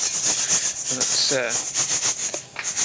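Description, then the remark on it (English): An old metal scoop digs into dry maize and corn chicken feed in a large food bin, making a continuous gritty, rasping scrape and rustle of grain, with a brief squeaky tonal rub partway through. “Let's get a scoop full of this. There's these old metal scoops.”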